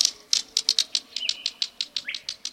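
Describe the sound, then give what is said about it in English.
A green kingfisher gives a rapid series of dry, pebble-like clicks, about a dozen in quick uneven rhythm, moderately quiet, with a faint chirp partway through. “Like two pebbles clicking together, the green kingfisher's quiet call can be heard at wooded streams and ponds.”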